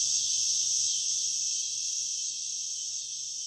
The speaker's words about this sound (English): She offers a final look at brood 10 cicadas' appearance in Delaware before they disappear for another 17 years.